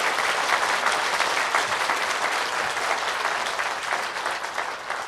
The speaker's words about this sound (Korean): 또 수고하신 여러 교역자들, 음향실에서 수고하신 분들, 보이지 않는 곳에서 저 주차장에서 수고하시고 주방에서 수고하신 분들 우리 보이지 않는 곳에서 수고하신 분들께 박수 한번 쳐주시기 바랍니다.